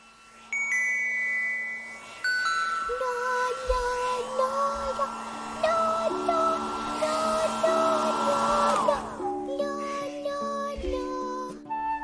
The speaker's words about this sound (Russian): Слышите шум пылесоса? Это Димка убирает квартиру.